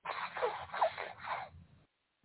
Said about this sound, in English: That's what, excuse me, y'all, I'm going to blow my nose.